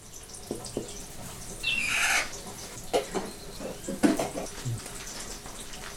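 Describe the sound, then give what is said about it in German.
Water boiling on a huge, newly built stove resembling old-fashioned kitchen ranges, in La Tejera, Rio Blanco region, Honduras: a steady low hiss and bubbling with scattered soft pops and clinks. A brief high squawk-like chirp cuts in early on, and nobody speaks. “Auf einem riesigen Herd, der den Kochmaschinen aus Großmutters Zeiten ähnelt, kocht Wasser.”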